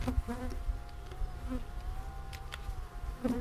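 A dense, steady drone of many honeybees buzzing around an open beehive as beekeepers work on it, continuous, with occasional individual bees flying past louder for a moment.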